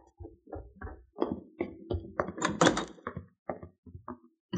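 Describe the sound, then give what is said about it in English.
A back door is opened and shut, with a run of wooden knocks, rattles and thumps from the latch and frame, fairly loud, and no voices. “I put the cow in the barn and came in through the back door.”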